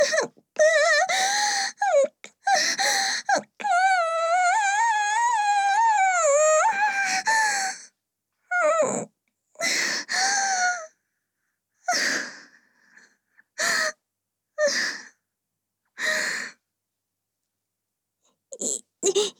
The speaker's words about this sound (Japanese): あまりにも退屈であくびをしてしまっただけです。